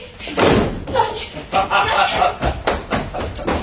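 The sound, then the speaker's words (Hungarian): Several heavy thuds and knocks against a door, irregularly spaced and fairly loud, with a rattling, banging quality over a few seconds. “Mint ha kopognának. A fene ezt az ajtót.”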